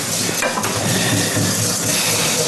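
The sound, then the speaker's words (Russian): Egg yolks and cream are whisked in a frying pan greased with a little oil, a steady scraping and stirring over a continuous sizzle, with no pauses and no voices. “Масса вот эта желтки и сливки я выкладываю на сковородку.”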